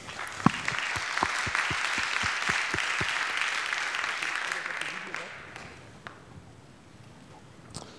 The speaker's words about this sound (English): Thanks for coming up. Thanks for getting the feedback and presenting the idea. An applause, please.